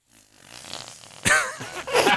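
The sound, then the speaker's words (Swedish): A comical fart-like noise made by blowing into one end of a straw whose other end is pressed into a bare armpit: a soft breathy buildup, then two loud, wet, buzzing blurts. “Så gör man pruttljud med ett sugrör.”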